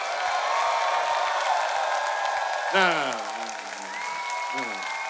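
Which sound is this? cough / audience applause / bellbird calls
audience applause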